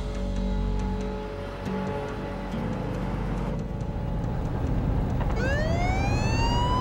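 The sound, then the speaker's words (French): Steady traffic rumble and engine drone fill the background until the siren of a fake police car, driven by Patrick Poland to force an armored van to pull over, suddenly starts up near the end, its wail rising sharply in pitch and growing loud. “Patrick était au volant de la fausse voiture de police et Michael se cachait sous le tableau de bord.”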